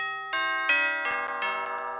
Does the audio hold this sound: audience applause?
no